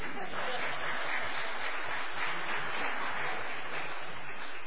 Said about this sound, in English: Some of you gave kind of a timid clap, and I want to encourage you.